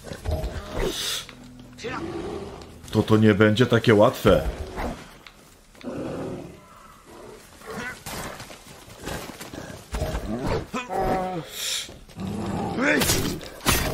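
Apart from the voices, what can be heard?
bear roaring and growling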